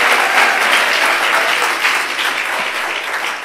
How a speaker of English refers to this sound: If you believe that, can you clap your hands and give God praise? Come on, praise Him. Yes. Oh, you can. Don't patty cake. I mean, praise Him. Really clap your hands and praise.